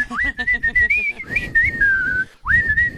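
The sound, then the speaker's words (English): Mickey Mouse in Steamboat Willie whistles a bright, clear tune with sliding pitches in a jaunty melody over a light rhythmic backing, with a brief pause before the whistling picks up again. “On that note, he sings, he whistles, he dances.”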